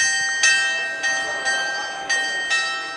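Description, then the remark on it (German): Glockenspiel with figure scenes about the history of mining at the Rammelsberg rings out in a steady sequence of about five struck bell notes, each blooming into a long shimmering sustain that overlaps the next, heard alone with faint outdoor ambience. “Das Glockenspiel.”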